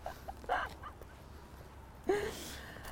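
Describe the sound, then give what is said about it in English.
A dog wearing a cone of shame makes two short, breathy noises, like a whimpering huff and then a louder whine, fairly quiet against a low background hum with a pause between them. “Oh, cone of shame, dog”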